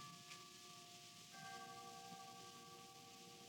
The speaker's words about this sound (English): What is that? Only the chimes of the hall clock. It's striking the three-quarter hour.